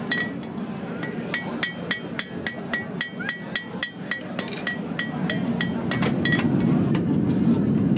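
A farrier's hammer rings out in quick, steady blows on cherry-red hot iron against an anvil at a mobile forge installed in a truck, each strike sharp and metallic, about two per second, over a continuous low roar like a forge or engine.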